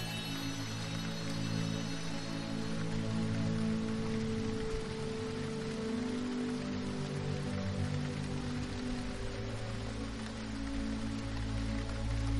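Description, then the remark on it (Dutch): Steady rain falls outdoors continuously, a dense even hiss with no breaks, accompanied by low sustained humming tones underneath. No voices are heard. “Soms regent het buiten en schijnt de zon binnen.”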